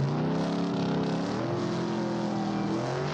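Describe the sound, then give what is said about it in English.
A car engine rumbles steadily as the vehicle cruises along, as teenagers do in the film American Graffiti, set in Modesto, California; its pitch rises and falls slightly with light revving. The sound is loud and continuous, with no talking. “In the film, the teenagers spend a whole lot of time tooling around in their cars, looking, cruising.”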